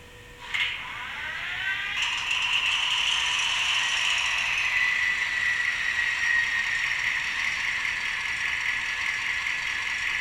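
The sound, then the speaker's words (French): A digital sound model CC72000 locomotive starts up: a brief tone and a click, then a rattling, whirring engine noise that swells and settles into a steady, fairly loud mechanical drone. No one speaks. “Donc pour l'heure, on va démarrer notre CC72000, qui est une locomotive sonore, digitale sonore, que je démarre à l'instant.”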